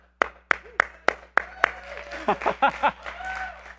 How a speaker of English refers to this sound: My kids were in a musical with their school, and I spent all weekend clapping. And so that's why it was just natural once I got here to start clapping.